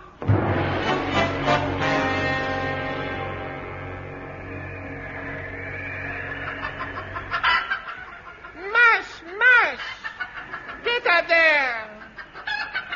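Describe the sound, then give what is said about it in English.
A low sustained drone fills the first half, then human voices burst in with a few loud chicken clucking and squawking impressions, meant as husky sled dogs doing impressions of chickens, coming in short irregular bursts. “Blue Bottle, tell those dogs to stop doing impressions of chickens.”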